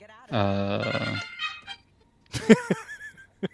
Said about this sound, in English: Sorry, I didn't turn my ringtone down. I was going to say, was that planned? Thematically that appropriate. That was not.